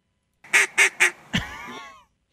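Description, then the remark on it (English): A duck call sounds three short, nasal quacks in quick succession, then a longer, drawn-out quack that trails downward, loud, with no talking. “Get us some duck callers. Okay. What happens to you when you do that? Do ducks come around?”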